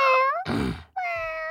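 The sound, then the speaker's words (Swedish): A person imitates a cat, giving two loud, drawn-out meows separated by a brief rough, growly burst, all without any actual words. “Kan jag låta som en katt nu liksom?”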